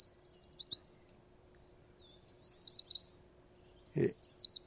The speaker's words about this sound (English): occasionally we'll hear what bird watchers refer to as an alternate song. He'll start out with a sweet, sweet, sweet